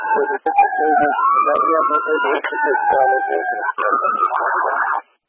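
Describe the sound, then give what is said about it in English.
The siren of a Denver emergency unit wails steadily beneath a man's voice on a narrow, crackly radio channel, its rising and falling tone nearly swamping the speech before the transmission cuts off. “Denver Attack 37, I could not hear you over your sirens.”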